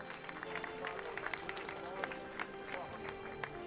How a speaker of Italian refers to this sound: Io vorrei invitare invece sul palco Susanna Camusso, segretario generale CGIL, un applauso per tutti.